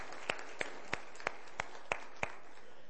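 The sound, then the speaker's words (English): Applause during a sermon for the dads present, with a steady, evenly paced clap standing out above a soft wash of noise, about seven sharp claps in three seconds, with no talking. “Let's just give a round of applause to our dads that are here today.”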